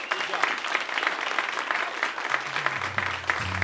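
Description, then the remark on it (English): A live audience at a recording claps steadily for a few seconds, dense and even in volume, and a low voice starts to come in under the applause near the end. “It's fun watching people share your thank claps.”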